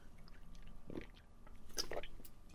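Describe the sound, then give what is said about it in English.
Quiet mouth sounds of someone sipping Sprite from a can, with two brief wet slurps or gulps about a second apart against a soft background hiss. “But today I have a can of Sprite. I just felt like some Sprite today. I'm going to take a sip of that.”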